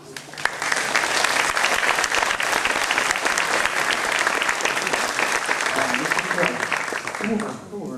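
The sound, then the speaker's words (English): Sustained applause from the audience for the director of INSA Lyon, at an event with keynotes at INSA: a dense steady clatter of many hands clapping at a consistent loud level for several seconds before tapering slightly at the end. “I'd like to applause him.”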